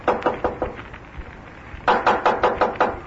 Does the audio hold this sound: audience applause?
no